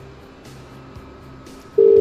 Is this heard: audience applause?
no